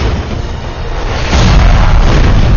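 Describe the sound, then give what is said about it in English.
A grenade explosion: a loud, deep booming roar with heavy low rumble that swells louder about halfway through and keeps rolling to the end, with no voices. “A hellish fireball lit up the field for yards, clearly exposing the three mounted Sec men even as dirt rained down from the sky.”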